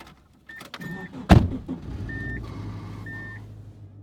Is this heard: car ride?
yes